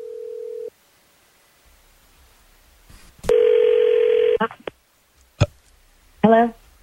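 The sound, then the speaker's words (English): A phone call being placed by the morning show hosts of radio station 102.9 The Wolf: a short steady line tone, a few clicks, then one loud buzzing ring tone, another click, and a voice briefly answering at the end. “We'll call and we'll see and at least get some answers here.”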